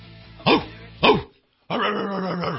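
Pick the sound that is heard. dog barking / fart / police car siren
dog barking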